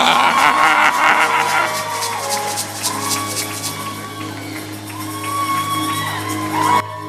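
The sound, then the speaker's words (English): A large crowd at Wolfbeck rises and screams, whoops and cheers loudly to welcome Dr. Mensa Otabia, a dense sustained roar with scattered high shouts, continuing throughout without a break. “Ghanaians, you should scream for it.”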